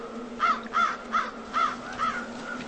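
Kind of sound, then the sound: bird, ravens cawing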